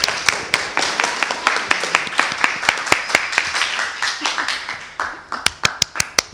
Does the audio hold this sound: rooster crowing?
no